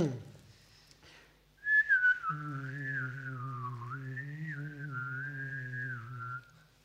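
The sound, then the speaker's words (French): A person whistles and sings at the same time: a single sustained whistle glides and wavers while a low sung note joins beneath it, the two interfering in the whistle, held together for several seconds, fairly loud, with no speech. “Je chante en même temps, mais les deux interfèrent au niveau du sifflement, ça fait ça.”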